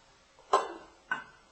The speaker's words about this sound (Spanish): la yuca, media taza, el arroz, estas son 3 cucharadas de arroz. Revolvemos. Y lo dejamos hirviendo 25 minutos.